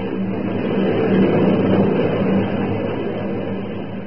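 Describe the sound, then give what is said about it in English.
Zubansky's airplane takes off with a steady, full engine roar and low droning hum that swells slightly midway, then holds before easing a little. No voices are heard. “That was Zubansky's plane taking off.”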